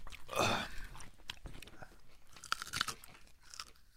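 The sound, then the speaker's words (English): Loud, wet crunching as someone chews a big piece of raw ginger eaten right after a drinking shot, with a big bite at the start followed by irregular smaller crunches and chomps over a few seconds, no talking. “You're gonna eat a piece of ginger.”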